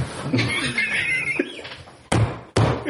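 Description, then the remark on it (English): Two loud, heavy thumps of someone banging on a table land about half a second apart, following a stretch of laughter and murmuring voices. “Hey, no banging on the table.”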